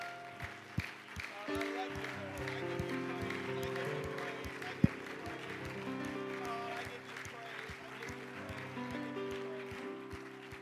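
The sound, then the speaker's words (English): An audience claps together in sustained applause, steady, as a hand clap of praise after a prayer at a church service, while sustained keyboard or organ chords play underneath for the whole stretch. “Would you give them a hand clap of praise?”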